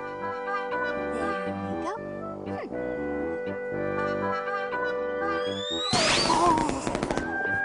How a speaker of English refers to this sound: Was a big one, right, Mo? Oh, Molly. Oh, Molly doesn't like firecrackers very much, Granny.